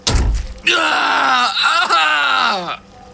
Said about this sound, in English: Peter screams as fiery pain radiates through his entire hand and up his arm. He tries to pull back, but Lynette holds the fork in place, tethering him to the table.